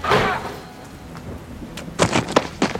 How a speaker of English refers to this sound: The rednecks tumble out onto the wet concrete. It's pouring torrential rain.